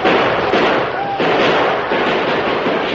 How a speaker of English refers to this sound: From the train, more gunfire broke out. A score of men inside the boxcars poured hot fire at the attackers.